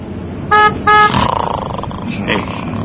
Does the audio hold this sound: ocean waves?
no